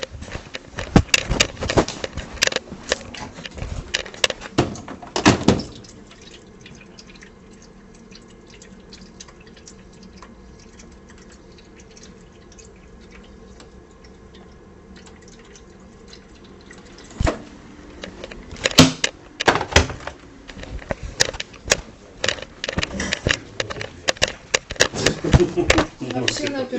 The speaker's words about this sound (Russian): Сейчас я чайник перепоставлю. Все сделаю.